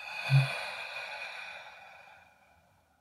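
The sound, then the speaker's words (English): A single slow, breathy exhale during a guided relaxation breathing exercise, starting with a soft push of air and gradually fading out over about three seconds, with no talking. “And breathing out.”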